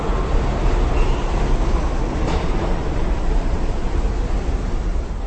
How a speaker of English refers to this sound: Now let's take the N train out to Astoria in Queens, where a lot of Czechs moved to from Manhattan.